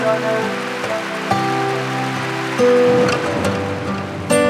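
Steady rain hisses in the background beneath sustained, slowly shifting keyboard chords, with a few brighter splashy accents near the end; no one speaks.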